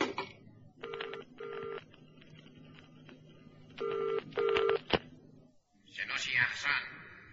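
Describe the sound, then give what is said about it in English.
A direct telephone line to a train connecting, played over an amplifier, with two pairs of short ringing tones over a steady line hiss, then a sharp click and a brief crackly burst, like a voice coming through the receiver. “You got a phone link with the train yet? Yes, direct line, sir, number 5.”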